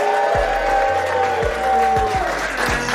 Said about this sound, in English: I know you lot can be louder than that. That was a weak round of applause. This is Joakim Noah, ladies and gentlemen. Make some noise.